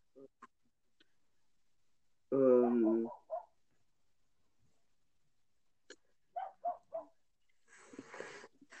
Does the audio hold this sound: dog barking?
yes